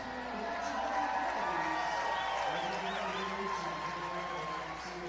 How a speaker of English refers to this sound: And now the back dog Casey comes out. I think Casey actually had a louder round of applause for retrieving the bat than McCarty did for his leadoff single.